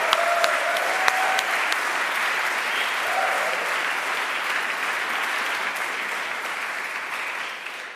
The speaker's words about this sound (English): So should we give the musicians a clap? I just think they've been amazing.